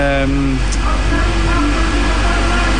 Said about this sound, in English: The bus coming in. They are arriving now.